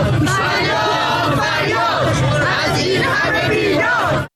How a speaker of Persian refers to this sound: این هفته بازنشستگان کشوری و لشکری هم در چند نوبت با حضور در خیابان و حوالی مجلس ایران در اعتراض به شرایط سخت اقتصادی و دریافتی‌های پایین خودشون شعار دادن و ابراز نارضایتی کردند.